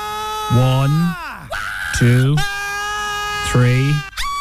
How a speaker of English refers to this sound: Your Tuesday challenge today. Identify the … scream.